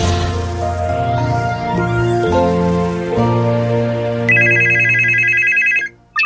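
A telephone rings with a rapid, high warbling trill in a Šparmobil radio advertisement. It cuts in after a few seconds of sustained tonal music, then briefly stops before starting again. No one speaks.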